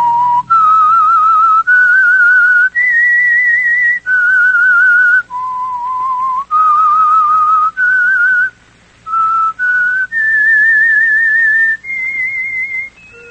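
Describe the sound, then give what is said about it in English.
A loud, clear solo whistle carries the slow, sustained theme melody of the radio program The Whistler, sponsored by the Signal Oil Company, with held notes that step up and down, brief pauses between phrases and no talking. “whistle be your signal for the Signal Oil program, The Whistler, each Monday at 9.”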